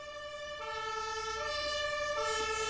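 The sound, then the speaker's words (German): A fire engine siren wails with steady, strongly harmonic tones that shift pitch in alternating steps, loud and continuous over a low rumble of traffic, with no talking. “Klingt nach Feuerwehr.”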